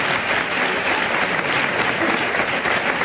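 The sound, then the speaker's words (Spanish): A large crowd at a bullfight applauds in an ovation, a dense wash of clapping hands that holds at an even, loud level throughout, with no voices standing out above it. “Bien, el aplauso, la ovación.”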